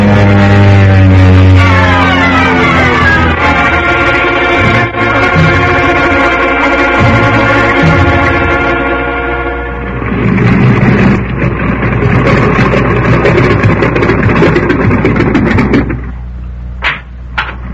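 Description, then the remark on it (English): A seaplane's loud, steady propeller-engine drone shifts in pitch as it comes down, then gives way to a rough, rushing roar as it settles onto the water beside a fishing boat, with no voices. “Did you have to land on the windy side of the fish boat?”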